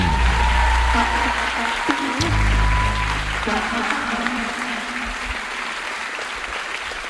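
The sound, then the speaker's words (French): An audience applauds steadily throughout to welcome YouTubers Queen Camille and Benjamin Nevers, a dense wash of clapping with some low rumbling tones underneath and a brief whistle-like tone partway through. “Merci de faire une douche dorée d'applaudissements pour Queen Camille et Benjamin Nevers.”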